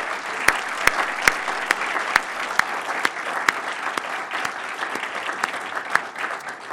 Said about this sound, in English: And let's give a round of applause to these winning students.